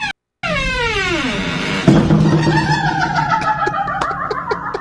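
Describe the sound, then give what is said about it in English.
A door gives a long, high creak that slides downward, then thumps against a doorstop and wobbles, its creak warbling like a cackle with small rattling clicks. “That is really coming from yes, because it hits the doorstop and the wiggling of the door makes it sound like a witch.”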